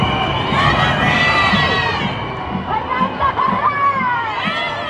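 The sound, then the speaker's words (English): A large outdoor crowd at a parade in New York screams and cheers continuously, a dense wall of shouting voices with rhythmic bursts suggesting chanting, loud throughout. “Amid the screaming and chanting, Clinton says she too would like to see an end to the bombing.”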